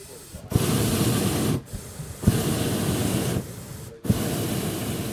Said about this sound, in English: The Dawn Patrol pilots blast their burners in unison, and a row of 80-foot balloons glow like paper lanterns against the dark sky.